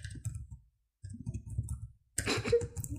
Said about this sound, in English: I'm furiously typing.